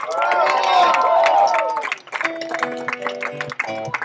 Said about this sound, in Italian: Un applauso ad … alla batteria.